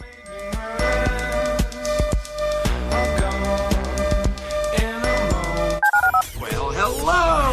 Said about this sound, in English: Dial the phone.